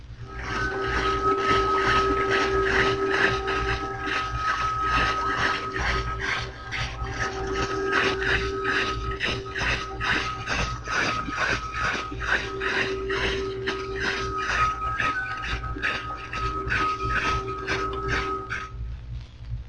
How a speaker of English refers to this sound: The electric driving machinery of a submarine has a smooth hum. Here is a submerged American sub at a range of 500 yards. You'll hear the prop beat as well as the hum of the machinery.